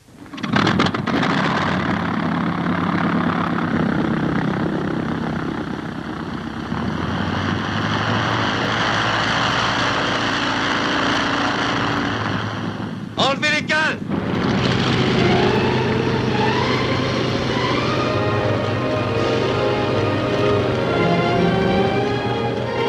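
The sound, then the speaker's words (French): In an extract from the film L'Esprit de Saint-Louis (The Spirit of St. Louis), the engine of Lindbergh's propeller plane catches and roars up, then holds a loud, steady droning hum with a brief sputter midway; a voice speaks faintly beneath the engine noise. “Essence ouverte, contact coupé.”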